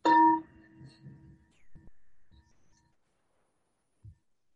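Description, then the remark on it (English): A meditation bell is struck once to ring in a short meditation of about 30 seconds, its clear, bright ringing tone fading over about a second and a half, followed by a few soft, low thumps and then quiet. “So I'll ring the bell in and then ring the bell out.”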